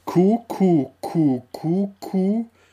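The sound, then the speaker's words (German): A voice imitates a laughing kookaburra call: five loud, evenly spaced, throaty hoots, each swooping in pitch, then a faint trailing breath. “Und dann, hier ist der Ruf des lachenden Hans”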